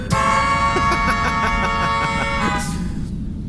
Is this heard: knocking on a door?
no